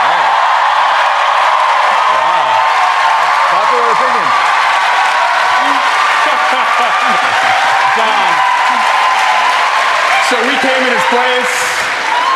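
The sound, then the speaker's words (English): Steady, dense applause from a large live-show audience in London fills the whole stretch, with scattered voices and a few whoops rising from the crowd beneath the clapping. “They're obviously applauding because they too believe that the price tag on the new embassy is too high.”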